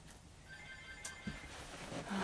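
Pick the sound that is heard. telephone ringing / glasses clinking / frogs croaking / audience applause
telephone ringing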